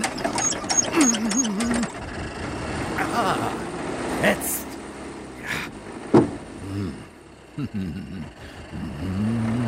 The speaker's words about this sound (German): Da muss man schon aussteigen. Was? Und vorne an der Kurbel drehen, um den Motor zu starten.